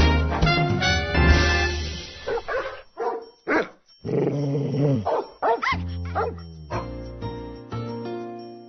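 A dog barks loudly and repeatedly, mixing sharp barks with rough, rumbling growls in an irregular burst-and-pause rhythm, with no one talking.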